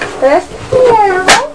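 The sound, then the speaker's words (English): A person imitates a cat with a couple of drawn-out, rising and falling meows, fairly loud, ending in a sharper, higher-pitched cry. “And who says meow?”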